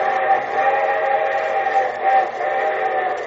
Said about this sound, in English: And here comes the summer show train.